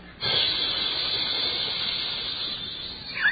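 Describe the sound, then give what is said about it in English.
A person imitates a hissing background noise with their mouth, like steam escaping, holding a continuous breathy hiss for a few seconds before it tapers off with a brief final burst. “I can't do that for as long as it went on. It's like releasing steam.”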